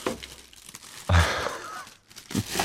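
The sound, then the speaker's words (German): An interview box holding a bag of ice cubes is opened amid crinkling plastic: a dull thump and a loud burst of rustling crackle, a brief pause, then more scratchy crinkling. No one speaks. “Können Sie die Box öffnen oder brauchen Sie Hilfe?”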